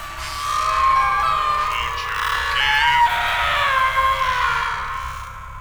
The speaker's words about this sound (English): Can you hear that? What? Like screaming.